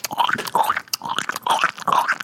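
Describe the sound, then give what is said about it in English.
A person mimics a dog licking itself with wet, smacking mouth noises and slurps, repeated in a steady rhythm of about four bursts, fairly loud with no talking. “And the dog's like, I'm going to just start kneeling on my crotch. Mm-hmm. And you hear...”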